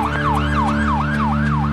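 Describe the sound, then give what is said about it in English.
A loud emergency siren whoops up and down in a quick repeating cycle, about four rises per two seconds, over a steady low engine rumble, from ambulances and police cars attending an emergency on a street up a hill. “I was walking up the hill and I saw it was really an emergency. I mean, there were like ambulances and police cars, and I said, oh my God.”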